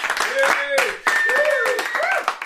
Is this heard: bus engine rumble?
no